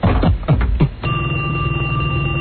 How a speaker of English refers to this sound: Hold on. Phone's ringing. Hold on. Let me grab it.